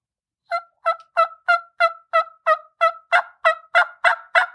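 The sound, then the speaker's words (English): A turkey call sounds a run of about a dozen evenly spaced hen yelps, clear, intensifying and growing louder and raspier toward the end like an excited hen, with no talking. “then start to intensify, get a little bit more excited with that yelping, like what a hen does.”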